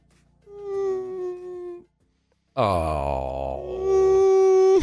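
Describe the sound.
A voice imitates the whimpering whine of a dog that exhaled with a whine on every breath while sleeping in a crate at night: two drawn-out, nasal, tonal whines separated by a short pause, the second opening with a sliding, falling pitch before holding steady and growing louder.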